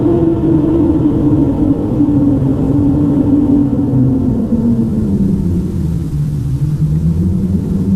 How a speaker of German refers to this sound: Plötzlich hörten sie ein Rauschen wie bei einem gewaltigen Sturm. Das ganze Haus, in dem sie sich befanden, war von diesem Brausen erfüllt.